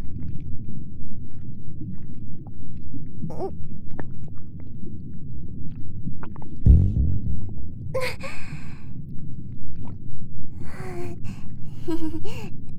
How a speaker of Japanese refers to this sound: ごめんね、ちょっとうるさかった。お腹越しのおなら。